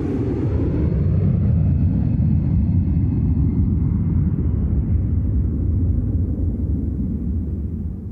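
A heavy, sustained low roar of a jet airplane touching down on a runway in Switzerland, loud, with a thin whine fading in the upper range as the rumble slowly eases off. No voices.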